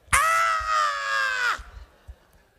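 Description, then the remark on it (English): A single loud, high-pitched scream rings out for about a second and a half, held steady before dipping at the end, like a voice imitating the excited shriek of women reacting to an engagement. “All of the women started screaming.”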